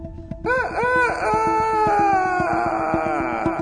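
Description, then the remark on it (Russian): A rooster crows loudly, its call rising and stretching into a long wavering note, set against a steady, evenly spaced rhythmic thump. “Проявил петух напор. В разговоре был он скор.”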